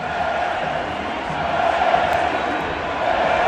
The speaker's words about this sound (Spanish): con Leo Messi, el astro argentino aclamado, vitoreado por los 20.000 aficionados que han estado en el estadio. ¡Messi! ¡Messi! ¡Messi! Y en el terreno de juego del Martínez Valero, gritos de Messi, Messi.